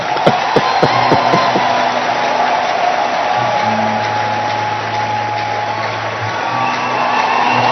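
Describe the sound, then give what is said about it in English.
A crowd claps and cheers in a steady, loud roar that lasts the whole time, with a few sharp hits at the start and a low sustained hum underneath. “Now, if you want to clap, you can clap.”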